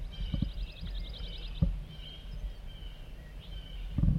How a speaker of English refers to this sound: Chittering by a wild bird coming in.